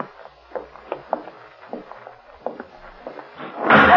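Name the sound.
door slamming shut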